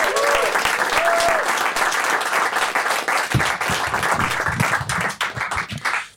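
A crowd bursts into a sustained round of applause, dense overlapping claps at a steady loud level that thin out and fade near the end, with a brief cheer or whoop early on.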